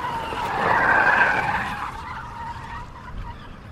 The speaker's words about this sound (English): I heard the roar of her car in the garden, the tires squealing on the asphalt road.